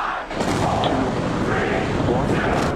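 A loud, continuous rocket roar as a SpaceX Starship rocket lifts off at Boca Chica, Texas, a dense rumbling crackle that swells right at the start and holds steady throughout, heavy in the low end.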